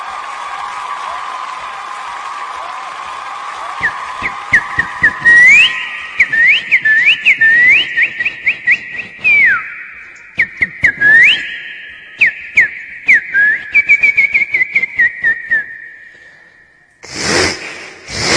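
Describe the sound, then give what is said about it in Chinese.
A performer doing vocal mimicry whistles an imitation of a bird call, with a long sustained tone and repeated rising chirps, while also imitating sawing; sharp rhythmic clicks run alongside, fairly loud, ending in a brief noisy burst. “我先模仿一段那个鸟声和这个拉锯吧。”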